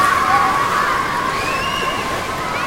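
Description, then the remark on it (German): Steady outdoor water ambience with sloshing and splashing at Fördersee lake, while children's voices call and shout, blending into a lively, continuous background of play by the water. “Ihr seid am Fördersee angekommen. Und hier gibt es jede Menge Spaß am Wasser.”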